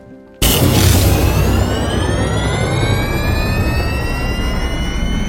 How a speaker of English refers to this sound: Okay, engine's hot. Ready for takeoff.